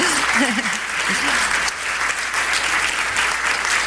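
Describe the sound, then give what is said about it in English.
An audience applauds steadily, a dense, even wash of many hands clapping that holds at a fairly loud level throughout, with a brief murmur of a voice underneath near the start. The applause thanks a speaker after a talk. “And you can say amen, or you can even applaud and say thank you,”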